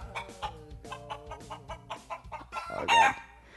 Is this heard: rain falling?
no